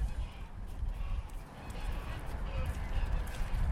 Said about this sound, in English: Is it a geese? It's the goose again. Oh, they make a fuss, don't they?